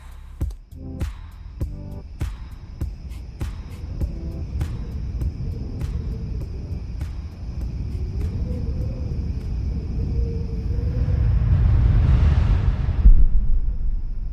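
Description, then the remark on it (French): A deep, continuous thunder rumble builds steadily and swells loudest near the end, with sharp crackling snaps scattered through the first half and no voices. “Aujourd'hui, quatrième épisode, il va y avoir de l'orage.”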